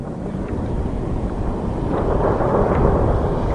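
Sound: thunder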